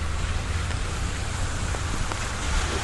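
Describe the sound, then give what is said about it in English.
A steady, soft hiss of very slow, light rain with a few faint drips ticking through, over a low constant rumble, with the noise of cars on a wet street. No one speaks. “So as you can hear, it's just a very slow rain at this point.”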